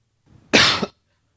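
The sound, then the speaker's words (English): A person on a call coughs once, sharp and fairly loud, bursting out abruptly after a faint low rumble and cutting off quickly into silence. “Mic off so I can cough into it.”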